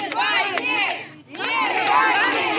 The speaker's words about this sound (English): In Dagestan, they chanted "No to war" during a clash with police.